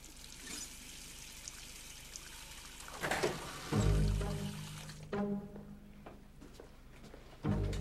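Water runs from a tap at a sink in a school's ladies' toilets, and several uneven splashes break in over the steady trickle as a woman splashes her face with cold water.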